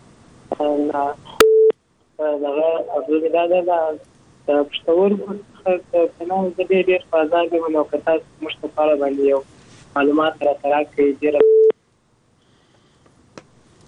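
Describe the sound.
Short telephone dialing and ringing tones sound at the start and again near the end, framing a long stretch of a person speaking over what sounds like a phone line.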